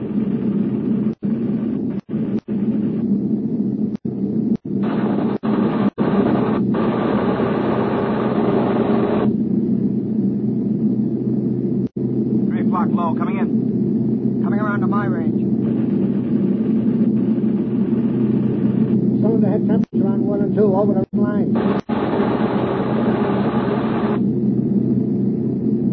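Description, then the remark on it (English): A steady, loud aircraft engine drone in flight fills the whole stretch, low and continuous, with a few sharp clicks and brief higher-pitched whines rising over it at moments, as the flaps are lowered another 2 degrees to cool the engines. “Flaps another 2 degrees. Cool them off. It'll slow us down. I can't help it. These engines have got to get us back.”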